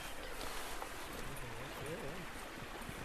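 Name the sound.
river water flowing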